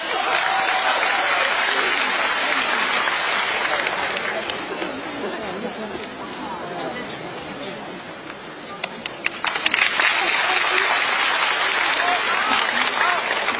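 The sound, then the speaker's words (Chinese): Sustained audience applause at Guo Qilin's special crosstalk show, welcoming a crosstalk duo, fills the whole stretch: a dense, steady wash of many hands clapping, with a brief dip before swelling again near the end. “感谢大家的掌声鼓励。”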